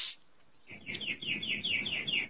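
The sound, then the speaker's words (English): A bird chirps repeatedly in a quick, steady series of bright high notes, moderately quiet, over a low background rumble. “Somebody's got a bird.”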